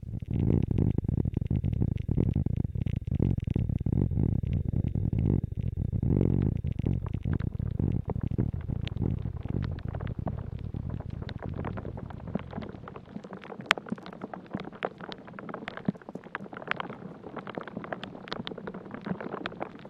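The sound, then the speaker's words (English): Water and wind moving inside an ash tree: a dense, low rumbling whoosh fills the first two-thirds, then thins into a quieter texture of sparse crackles and faint clicks, with no voices. “This soundscape is a dendrophony duo, two different sounds created by movement of water and wind inside this ash tree.”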